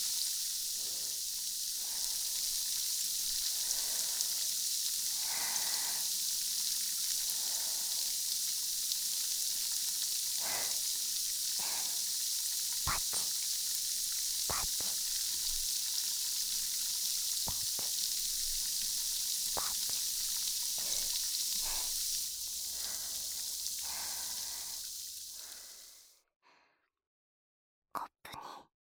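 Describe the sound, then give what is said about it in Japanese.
Carbonated water being poured in plenty fizzes steadily, a dense crackling hiss dotted with tiny pops and bubble bursts, holding for about twenty-five seconds before cutting off, followed by a couple of faint clicks. “炭酸水をいっぱい注いで、シュワー、ゆったり力抜いて癒されてください。”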